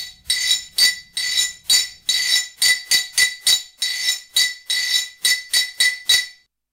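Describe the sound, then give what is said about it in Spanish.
A spoon scraped rhythmically down an empty ridged glass Anís del Mono bottle, about fourteen bright, rasping strokes in a steady, quick pattern, each a short metallic-glassy zip, played alone with no voices. “ha cogido una botella de anís que tenemos aquí vacía y la ha restregado con una cuchara, ¿verdad?”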